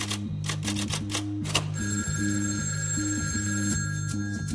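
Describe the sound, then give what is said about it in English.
A telephone bell starts ringing partway through, a steady bright ring that follows a flurry of sharp typewriter-like clicks, with a low stepping musical tone underneath throughout. “The phone rang again.”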